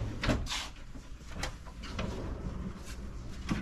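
A handleless drawer, two drawers in one, slides open and shut, with several short rumbling glides and soft thuds spread across a few seconds, with no talking.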